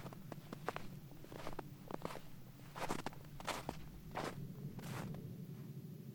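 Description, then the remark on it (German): Footsteps crunch softly over snow under shoe soles in a steady walking rhythm, each step a soft, broad crackle, with a low hum underneath and no voices. “Und Sie hören beim Laufen nur das leise Knirschen des Schnees unter Ihren Sohlen.”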